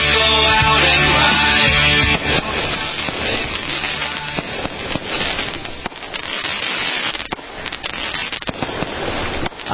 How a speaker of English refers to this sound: Fireworks. Boy, there's nothing like it, is there? Hear that? Those are the special America Tonight fireworks. We spared no expense.